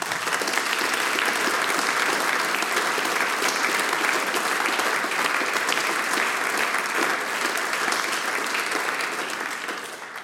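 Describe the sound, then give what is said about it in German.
An audience applauds steadily after a performance of music and singing, a dense, even wash of clapping that holds its strength for about ten seconds before easing off slightly at the end. “Adi Gutenberg-Streich hat uns mit Musik und Gesang verwöhnt. Euer Applaus!”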